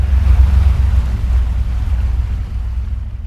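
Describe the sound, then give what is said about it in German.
A boat's engine rumbles low and steady on the open North Sea in the early morning, heading out from the East Frisian coast of Germany toward an offshore wind farm about 15 kilometres off the island of Borkum, with wind and rushing sea noise in the background, no voices present. “Die Schifffahrt hinaus beginnt früh morgens.”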